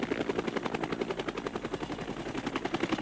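A helicopter in the film Hard Hunted flies, its rotor blades producing a steady, rapid thudding chop over a broad engine whine, holding fairly constant throughout with no voices.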